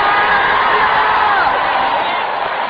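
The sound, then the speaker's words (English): A large church audience screams and cheers loudly in a continuous roar, a dense wall of voices sustained at full intensity throughout, with no single speaker standing out. “Come on, let the church scream.”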